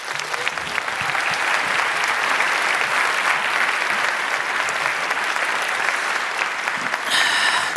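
A crowd applauds steadily for several seconds, a dense wash of many hands clapping at an even, sustained loudness with no voices over it.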